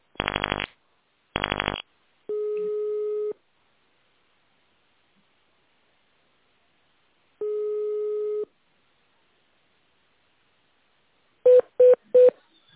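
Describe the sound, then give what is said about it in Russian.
Telephone keypad tones: two harsh buzzy bursts, then two long steady electronic tones separated by silence, and finally three quick beeps in a row. No one speaks. “Для соединения с химчисткой наберите 15. Для соединения с прачечной наберите 16.”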